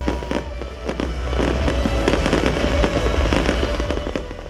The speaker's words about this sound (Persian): و مردم در سرتاسر جهان از سال 2008 میلادی با آتش بازی و دیگر مراسم استقبال کردند.